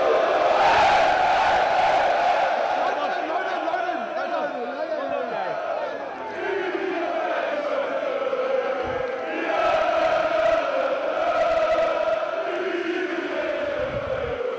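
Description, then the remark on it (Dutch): A large crowd of Deventer supporters in Austria sings together to a person in a loud, sustained chorus of many overlapping voices, with cheers and shouts mixed in and no break across the whole stretch. “Want je bent toegezongen in Oostenrijk.”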